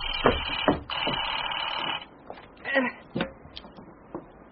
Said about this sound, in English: The phone.